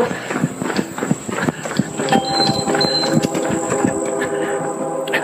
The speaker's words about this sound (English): Hear the train coming.